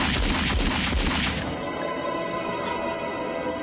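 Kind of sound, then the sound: impact, gunshot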